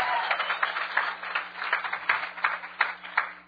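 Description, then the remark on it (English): A crowd claps hands for Jesus steadily for a few seconds. The many overlapping claps form a dense wash with a loose rhythmic pulse, moderately loud and heard alone without talking. “Hey, let's give Jesus another hand clap.”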